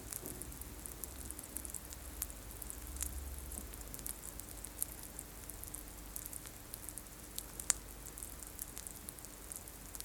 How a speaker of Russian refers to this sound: Например, такое. Поливаешь цветок, и он со звуком впитывает воду.